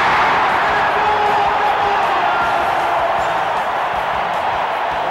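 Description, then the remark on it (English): A large basketball arena crowd stands, waving their arms and cheering in a loud, sustained roar, a dense wash of voices and whoops that stays steady for the whole stretch without letting up. “The crowd stands for Kareem to get the ball. Everybody's waving their arms.”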